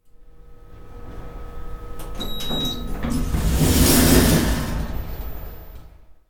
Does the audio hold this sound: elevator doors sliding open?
yes